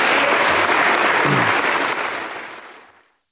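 A large crowd gives a standing ovation, applauding loudly and steadily, a dense wash of clapping that holds strong for a couple of seconds before tapering off and fading to silence.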